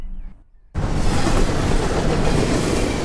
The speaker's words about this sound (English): And I'm on the verge, next to a busy railway line, filming and viewing trains through my binoculars.